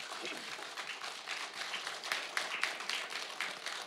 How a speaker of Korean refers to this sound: 여러분 큰 박수 부탁드리겠습니다.